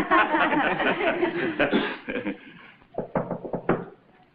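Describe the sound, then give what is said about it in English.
Laughter and chattering voices fill the opening, then fade as a quick series of about five sharp raps on a door sounds out in an uneven rhythm, distinct. “I think someone's at the door.”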